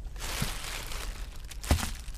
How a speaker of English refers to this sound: Okay, are you ready? Let's open the bag. And today's ingredients are...